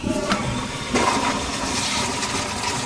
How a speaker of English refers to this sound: So after you flush, wash your hands, what happens next?